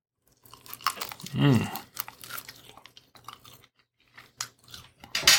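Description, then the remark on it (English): Wet, irregular chewing of barbecue chicken with soft crunches and smacking, a brief vocal hum or murmur rising in the middle, then quieter mouth sounds and a final louder smack. “And let's try it, with the chicken. This is the barbecue chicken.”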